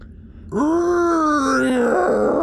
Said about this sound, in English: Saul doubles his jump, does a long jump, gets about halfway across the bridge, lands nimbly on top of one of the huge rocks, and you hear a deep creak, like a moan from the metal, as things begin to shift.